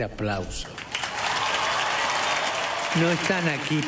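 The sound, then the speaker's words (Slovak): Loud, sustained applause from a large crowd, given in thanks to Jesus, a dense crackling wash of clapping throughout, with a voice briefly heard at the start and again near the end. “Poďakujme Ježišovi ďalším hlasným potleskom.”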